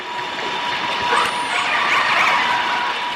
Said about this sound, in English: And now listen to the combination as a different large ship comes around a corner and intersects with a pod of whales.